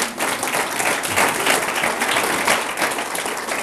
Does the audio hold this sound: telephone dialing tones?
no